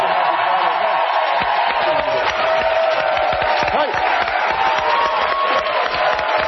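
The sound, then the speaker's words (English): A crowd claps and cheers steadily for several seconds for a group of women military veterans brought by the USO, a dense, loud wash of applause with scattered shouts and whoops rising above it, no break in the noise. “And I just want everybody to give them a big round of applause.”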